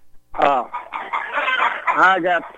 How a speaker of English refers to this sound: I got a hen here that produced some groceries. Now, let me get out of the barn. I was going to say, it's getting kind of loud there. I thought that's what it was.